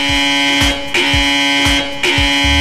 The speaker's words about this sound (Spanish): Oye, es que de verdad me vuelve loca esa alarma, me encanta, te lo juro. Es que cuando tuvimos que elegirla fue como la esta. Esta debe es. Ser, la que parezca que una alerta de tsunami, esa.